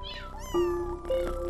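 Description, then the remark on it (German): Cats meow in several short, overlapping calls, some rising and bending in pitch, over a soft low rumble of purring as they nestle against a person's legs. No one speaks. “Weich und kuschelig schmiegen sie sich an deine Beine und schnurren, was das Zeug hält.”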